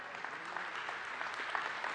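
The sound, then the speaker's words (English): A crowd of people claps steadily, a dense, even patter of many hands sustained throughout at moderate volume, without any voices standing out. “Yeah, clap for that.”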